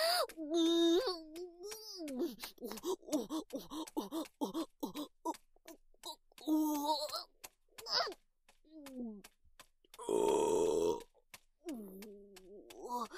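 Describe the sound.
A loud, rough burp erupts near the end, following a stretch of breathy vocal sounds and murmured speech.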